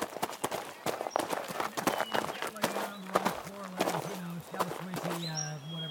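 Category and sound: animal, horse hooves clip-clopping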